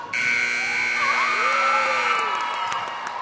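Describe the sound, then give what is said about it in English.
A loud, sustained basketball buzzer blares steadily for about two seconds on the court, marking another narrow victory for the High Fives, a team of 65- to 70-year-old players in a tournament, with a crowd cheering and whooping around it. “The buzzer sounds on another narrow High Fives victory,”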